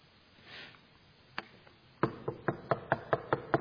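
A couple of isolated knocks, then a steady run of about eight firm raps on a wooden door, evenly spaced, with no voices; Peter knocking at the outer entrance of the house of Mary, mother of John Mark, in a Bible reading.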